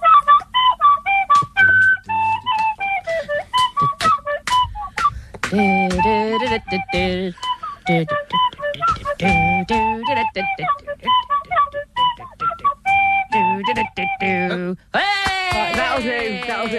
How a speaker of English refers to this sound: Oh, she found a tin whistle. That's so cute.